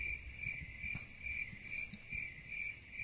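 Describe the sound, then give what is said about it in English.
Crickets chirp in a steady, continuous pulsing trill at a moderate, even volume, with a faint low rumble underneath and no voices. “I need the sound of crickets right now.”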